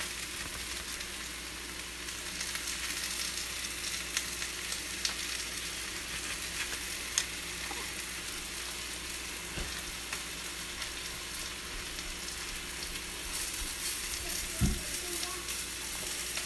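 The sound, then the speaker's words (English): Steady crackling sizzle of onion frying in a hot pan, continuous throughout with occasional louder pops and faint clinks, no talking. “Sizzling away.”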